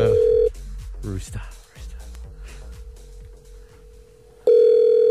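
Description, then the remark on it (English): A loud, steady telephone tone sounds at the start, continues faintly beneath voices through the middle, then returns at full strength at the end, like a call being dialed and ringing. “All right, here, I'll pop in the number.”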